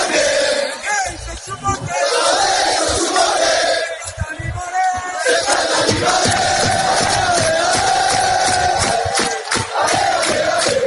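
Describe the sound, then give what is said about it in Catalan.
Fans of Centre d'Esports Sabadell chant and cheer in unison just after the match at Castàlia, a loud, steady wall of voices with rising shouts and rhythmic sung phrases that swell after the first few seconds. “Amb els crits de fons de l'afició del centre d'esport Sabadell, això és el que es va viure ahir, només acabar el partit a Castàlia.”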